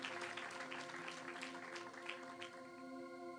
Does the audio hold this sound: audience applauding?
yes